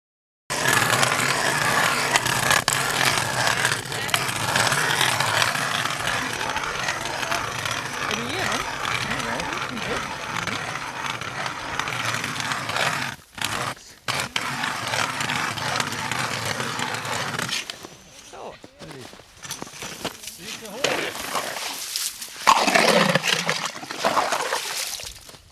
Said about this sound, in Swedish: deltagarna sprider ut sig runt honom och borrar sig ner genom den nästan 80 cm tjocka isen i hopp om att få upp det röda guldet ur djupet, fjällrödingen.